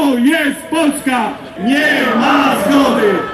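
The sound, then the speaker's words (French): A crowd of a few thousand conservative protesters chants loudly in unison in the street at an evening rally in Warsaw, Poland, against immigration and Donald Tusk's pro-European government, voices rising and falling in a steady rhythmic cadence with a brief pause before the chant resumes. “la droite conservatrice est descendue dans la rue hier soir à Varsovie. Ils étaient quelques milliers rassemblés contre l'immigration et contre le gouvernement pro-européen de Donald Tusk.”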